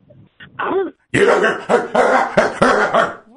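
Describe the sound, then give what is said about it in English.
A person imitates a dog barking: a short yelp, then a run of loud, raspy, throaty bark-like bursts in quick succession. “Give me a little bark”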